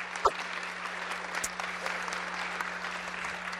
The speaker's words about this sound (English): So give her a round of applause for being able to be here.